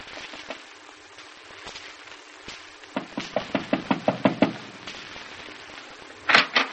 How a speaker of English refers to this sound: But you didn't answer when I knocked on the door.